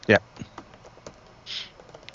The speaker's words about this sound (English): You can hear me typing again.